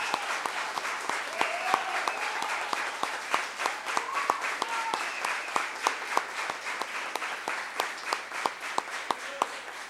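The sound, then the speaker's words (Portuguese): An audience applauds steadily for several seconds, a dense patter of many hands clapping with sharp individual claps standing out, and faint voices and cheers murmuring underneath. “uma salva de palmas aí.”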